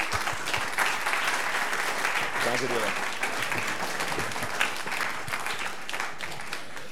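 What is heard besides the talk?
audience applause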